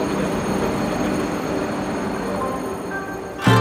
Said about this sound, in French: C'est le prix de mon billet de train qui est offert par Toyota aujourd'hui pour Valenciennes. On va monter, on est voiture 11, place 34, fenêtre. On est même en première classe. Bonjour monsieur, merci à vous.